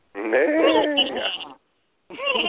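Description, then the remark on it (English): A person imitates a Clydesdale horse neigh, a loud, wavering whinny lasting over a second, then after a short pause a second vocal burst starts. “Why do you have barnyard noises down to a T”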